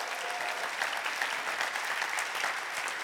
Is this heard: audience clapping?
yes